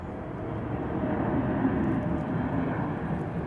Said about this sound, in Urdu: اچھا جہاز چلا جائے پھر میں بولوں.